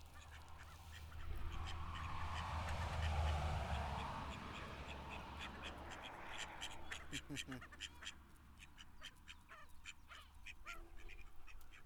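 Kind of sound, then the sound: bird, ducks quacking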